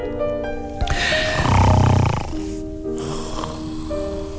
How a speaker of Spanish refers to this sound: Duerme y ronca así como tu abuelito.